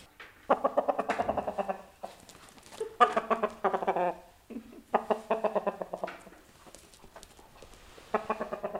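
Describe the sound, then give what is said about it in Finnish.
A rooster named Väinö at the Tuulispää stable clucks in a string of short, throaty bursts, moderately loud, with brief pauses between the rhythmic runs of calls. “Väinö on kukko. Ihan sairaan komea.”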